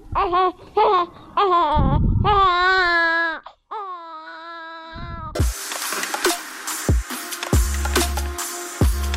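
An infant in a family affected by the border conflict between Tajikistan and Kyrgyzstan wails in a series of loud, strained cries with short gasps between them, followed by a noisy, busier background with scattered thumps and rustling.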